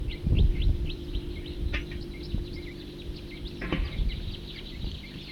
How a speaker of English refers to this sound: Larger flock flying over.